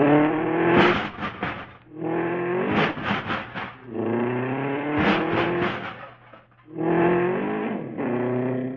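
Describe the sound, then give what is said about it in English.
An old hot rod's engine revs repeatedly in rising bursts as it pulls out of a tight parking spot, climbing in pitch and dropping back between pushes, then pulling away. Loud, with no talking over it. “We were really parked in there tight.”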